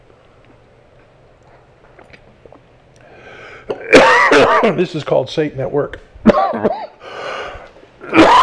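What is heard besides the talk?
coughing fit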